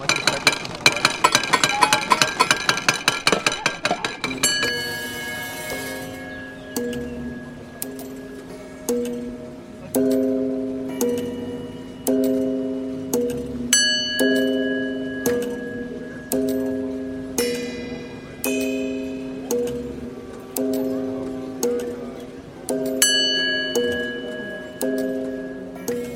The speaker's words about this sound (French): des micro-casseroles, des boîtes à thé. Une espèce de set avec plein de boîtes de conserve, boîtes à sardines et des petits, espèces de petits marteaux, des petites billes de caoutchouc, j'ai l'impression, qui vont taper sur toutes sortes d'objets.